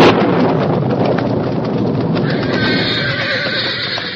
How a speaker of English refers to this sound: dawn revealed that the storm, instead of slackening, had increased. Boulder Creek was a raging torrent, and lightning forked down from low-hanging clouds with a resounding crash that made the roan horse whinny with fear.